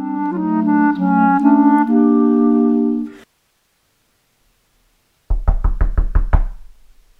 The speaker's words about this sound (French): Tiens, qui frappe à ma porte? C'est nous! Oh, mais que font tous les voisins devant la porte de notre sorcière qui oublie tout?